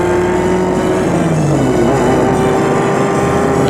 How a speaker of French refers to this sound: Après avoir déjeuné, elle entre dans la voiture. Les bagages y étaient déjà déposés. Et la voiture est partie.